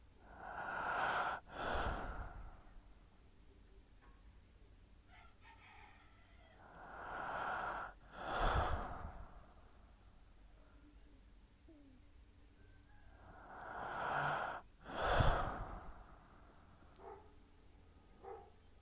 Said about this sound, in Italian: Senti il tuo respiro, lascia che i suoni del mio respiro possano arrivare a te, ma non per questo devi imitarli o seguire il ritmo e l'intensità del mio respiro.